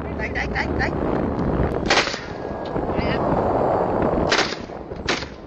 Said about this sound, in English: These are big steel ships, and very early on into the video, you start hearing gunshots